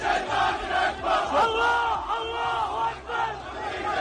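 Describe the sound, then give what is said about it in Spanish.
Thousands of protesters at the United States embassy in Baghdad chant and shout 'death to the United States' in unison, a dense roar of many voices with rhythmic swells and rising cries, continuous and loud throughout. “El embajador ha sido evacuado después de que miles de manifestantes hayan pasado los puestos de control gritando muerte a Estados Unidos.”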